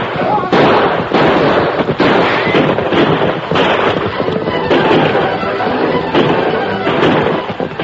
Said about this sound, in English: Led by the Lone Ranger, the Marshal and his posse thundered down the slope, their guns blazing. The outlaws wheeled and fought back, but they were fighting uphill, aiming into the sun.